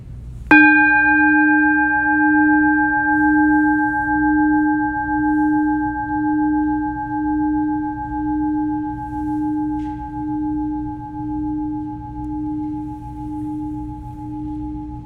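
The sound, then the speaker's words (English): A single bell strike rings out with a bright attack, then a long, steady sustain with a gentle pulsing beat, slowly fading over many seconds with no voices. “So one more time, I'll hit the bell. Just receive the sound. Hear it until it stops.”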